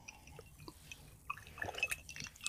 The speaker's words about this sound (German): Zum Wohle. Kann man jetzt die Eiswürfel hören?